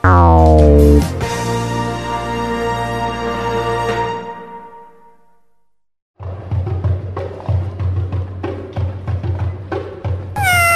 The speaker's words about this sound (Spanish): Un gato caminaba por un tejado maullando. Miau, miau.